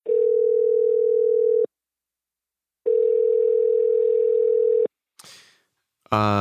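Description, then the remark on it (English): A steady telephone dial tone hums in two long stretches of about two seconds each, separated by a pause, followed by a brief click and the start of a voice. “And then Friday night, we got on the phone one last time.”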